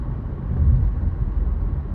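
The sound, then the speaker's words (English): A steady low rumble fills the space, like the muffled drone of a car interior while driving, with no voices and a constant, even loudness throughout. “It really wasn't on my mind when I started this, when I got in the car.”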